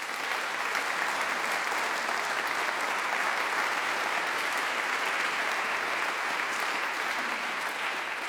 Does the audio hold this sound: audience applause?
yes